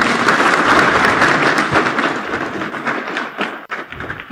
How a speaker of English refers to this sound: Certainly another round of applause.